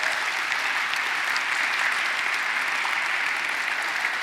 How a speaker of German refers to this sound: Ich glaube, wir können ihnen wirklich nochmal einen fetten Applaus geben. Machen wir.